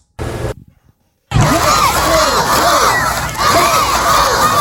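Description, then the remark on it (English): Hundreds of students cheer and shout together at a school visited by Thunderbug, the Tampa Bay Lightning mascot, on its 1,000th school visit, a loud, dense roar of many overlapping high voices that swells and holds steady after a short burst and a brief silence. “Hyping up hundreds of students ready to feel like they're part of the Tampa Bay Lightning.”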